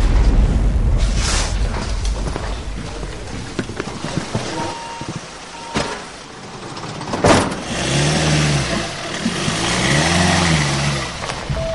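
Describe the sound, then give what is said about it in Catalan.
A car engine rumbles, with a sharp thump like a door shutting partway through, then the engine revs up and down in rising surges as the vehicle pulls away. No one speaks. “Anem cap als cotxes i anem tirant.”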